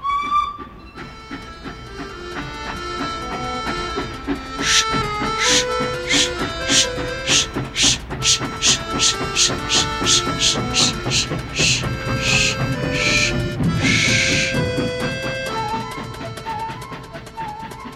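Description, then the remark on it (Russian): A steam train chugs along in a steady rhythm of hissing puffs, joined by sustained whistle-like tones, fairly loud with no talking. “В нашем поезде с нами ехали ребятишки.”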